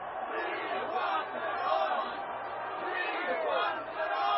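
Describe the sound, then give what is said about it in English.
A crowd of about 300,000 people at the Casa Rosada in Buenos Aires on 15 October 1945 shouts and chants "Free Juan Perón!" together in a dense, continuous roar of many voices, rising and falling in waves without a break. “Soon everyone was shouting, "Free Juan Perón! Free Juan Perón!"”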